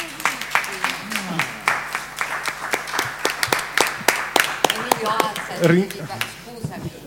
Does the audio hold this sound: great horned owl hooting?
no